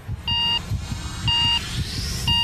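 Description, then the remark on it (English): Three evenly spaced on-screen countdown beeps before a missile launch from a mobile launcher, one per second, each a short bright electronic tone, sounding over a steady low rumble of background noise. “So we can see them wheeling the thing out and raising it up on a mobile launcher, and then there's an on-screen countdown.”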